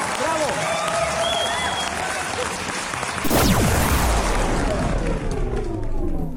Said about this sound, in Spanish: Programa por el cual inauguramos el túnel de la línea. Aplausos, señores. ¡Bravo! ¡Bravo!